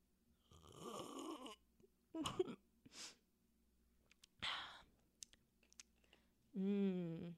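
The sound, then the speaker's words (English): ASMR-style sips of Apple Snapple: a few wet slurps and gulps separated by short pauses, ending in a drawn-out, satisfied voiced exhale. “Yeah, go take your first sip and then just tell the viewer.”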